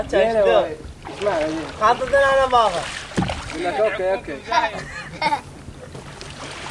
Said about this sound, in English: A traditional marsh Arab skiff, long, narrow and sharp-prowed, and full of giggling children, is poled past us